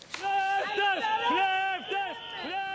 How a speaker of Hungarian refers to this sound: Tolvajok, tolvajok, kiabálják a görög közalkalmazottak a belügyminisztérium épülete előtt.